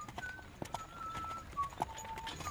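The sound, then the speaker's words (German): Hooves clip-clop at a steady, unhurried pace as a horse-drawn carriage rattles along a forest path, fairly quiet, with someone whistling a tune over it. A strong horse at an easy gait pulls a carriage of wooden planking on two axles, a man seated on the driver's box. “Ein leises Kutschenrattern erklang. Rollend, knirschend, klappernd. Langsam wurde es lauter.”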